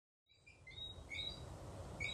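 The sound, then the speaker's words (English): A whistling frog in Barbados, on a slightly rainy day, calls with a series of short, high-pitched whistles and chirps. The calls repeat irregularly over a steady background hiss with a low rumble. No one speaks. “That is actually a whistling frog.”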